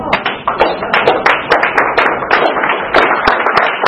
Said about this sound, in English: The applause woke you up, maybe?